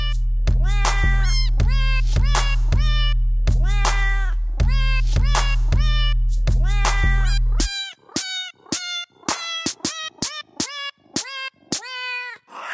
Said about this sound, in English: But now we don't need a cat piano because we can record the voices of actual cats. So what you can do is get a cat's voice, sample it, and then match that sample to actual notes on a keyboard.